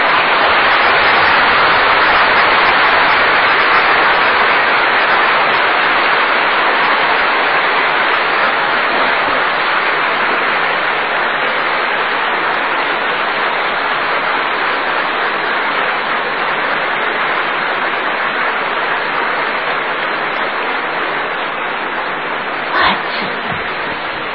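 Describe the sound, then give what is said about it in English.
A large crowd claps continuously, a dense, steady wash of hand claps that stays loud and even for the whole stretch, with a brief sharp knock near the end. “So you may clap.”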